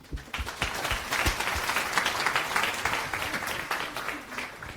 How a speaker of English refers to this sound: So our next speaker is Leo, who is a developer at Dino, and he's going to talk about how to create a JavaScript runtime with Rust. Big round of applause for Leo.